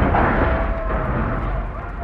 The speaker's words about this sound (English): There goes my insurance. I'll stick to old bangers from now on. I think Jastrok blew up our cars to intimidate us.